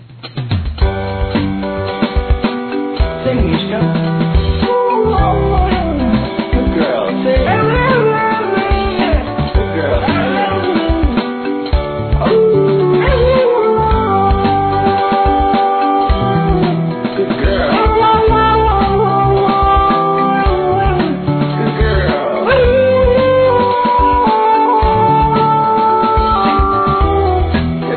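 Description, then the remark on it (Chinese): A husky named Mishka howls and croons along with music its owner plays on an iPad, its long wavering notes sliding up and down in pitch over the tune, loud and continuous throughout. “这种狗啊，其实伊听到人放音乐的声音，人对人唱哦。”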